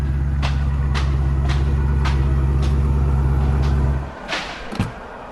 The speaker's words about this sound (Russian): Ничего себе машина.